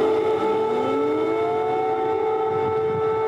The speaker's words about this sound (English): His arrival came after air raid sirens blared throughout the Ukrainian capital.